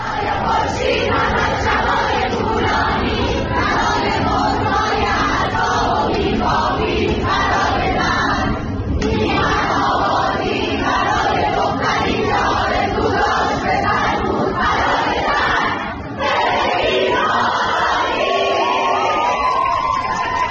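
A large crowd of young women, students at Soore University, chants and shouts together in the middle of the university in loud, rhythmic bursts, their voices sustained and dense throughout, with only brief pauses between phrases.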